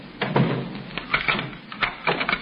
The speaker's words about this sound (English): Well, can't you wait until I close the door?